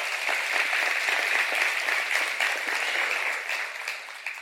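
An audience applauds in praise of the Lord, many hands clapping in a dense, even wash of sound that holds strong throughout, then eases slightly toward the end. No voices stand out.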